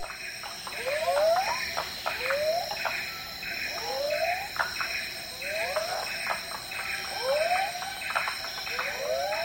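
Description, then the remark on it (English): Empress cicadas drone in a steady, shrill high whine while various frogs repeat short, rising chirping calls about every second and a half, layered into a dense chorus at dusk by a frog pond in Kubah National Park, Sarawak, Malaysia, with no voices. “Those are Empress cicadas, I believe, and varieties of frogs.”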